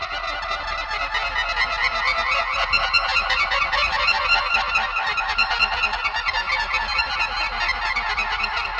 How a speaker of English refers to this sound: Star Trek 7, MX4, take one. And those famous transporter tones, again featuring Kukerley at his Magic Box organ.